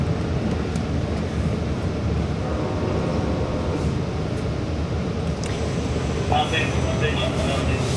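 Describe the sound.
Steady, dense rumble from inside a moving train, loud and continuous throughout, with faint indistinct voices underneath and a brief high whine near the end.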